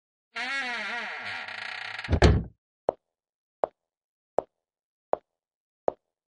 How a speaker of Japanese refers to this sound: 見とれてないで、早く入ってドアを閉めなさい。